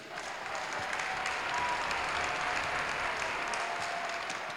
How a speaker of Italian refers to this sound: Un applauso e un grazie.